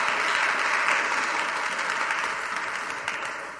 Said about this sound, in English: Oh, don't clap.